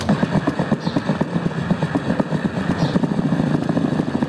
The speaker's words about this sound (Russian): И мое самое любимое – сердце белки.